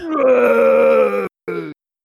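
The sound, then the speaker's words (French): A man wearing a mask lets out a long, loud, throaty roar, imitating a wild beast, held for over a second, then a shorter second growl after a brief pause. No words are spoken. “Vous nous entendez, vous l'entendez rugir, et moi au micro, je suis la meilleure larmbar pour arbitrer cette bastonnade, cette bataille des titans, et bien sûr pour m'accompagner qui rugit sous son masque, le … des podcasts”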